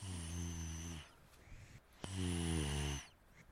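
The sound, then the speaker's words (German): A dog named Bello, having dozed off, snores twice in its sleep, each snore a steady, buzzing drone lasting about a second, separated by a short pause with a soft breathy inhale. No talking. “Er ist eingenickt und schläft.”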